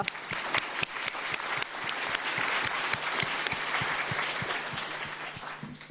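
An audience applauds steadily for several seconds, a dense patter of many hands clapping with sharper individual claps standing out, no voices heard.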